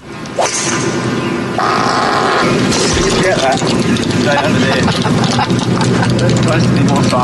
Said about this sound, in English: It's for basically what he dropped at the Travelers Championship. Yeah, he ripped an incredibly loud fart while golfing. And you know what? He immediately admitted it.